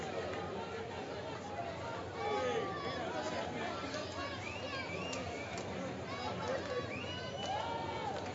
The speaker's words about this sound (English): Crowd still buzzing after that swing.